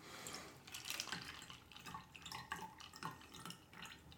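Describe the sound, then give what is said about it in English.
Liquid pours steadily into a drink as it is topped up, a continuous trickling stream broken by small splashes and drips, fairly soft, with no voices. “I keep thinking it's almost done, but there's more.”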